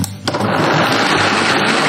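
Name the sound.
blender running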